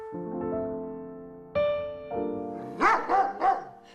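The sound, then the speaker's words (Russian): A female family guard dog named Bimka gives three quick barks in a rapid rhythm near the end, following a few seconds of steady, sustained tonal sound. “Выбрали щенка, дали имя Бим.”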